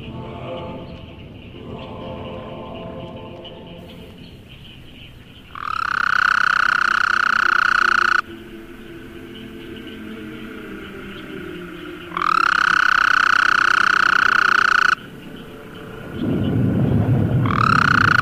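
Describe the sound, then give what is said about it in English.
A Gulf Coast toad (Bufo valliceps) gives loud, steady buzzing trills at about 1,400 cycles per second, each lasting about two to three seconds, repeated with pauses between and a third starting at the end, over a low rumbling background. “Smaller is a Gulf Coast toad, Bufovaliceps, with a longer trill at a frequency approximating 1,400 cycles per second.”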